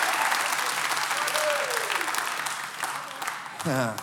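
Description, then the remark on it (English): A crowd applauds and cheers in agreement with the word of God, steadily with broad, dense clapping and scattered cheers, and a voice rises near the end as the applause continues. “You can stand and cheer as well around the campuses.”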